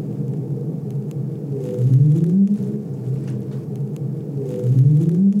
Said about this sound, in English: Sure. This is a right whale sound. So right whales make an upsweep. Yeah. We can detect those pitch tracks really well.